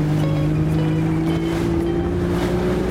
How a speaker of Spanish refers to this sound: Me fui a ver ballenas en el Pacífico. Ya en la lancha para el avistamiento de ballenas. Jorobadas.